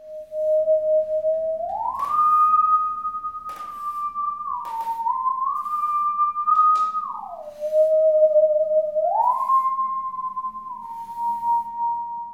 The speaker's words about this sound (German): alle wollten gleich Sägen bauen und auf Sägen spielen und das in die Shows einbauen